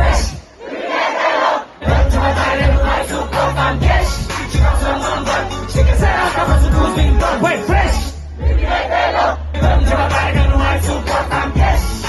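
A large festival crowd sings along loudly and enthusiastically, many voices merging into a dense, continuous chant over thumping music, with a brief dip before the singing swells again.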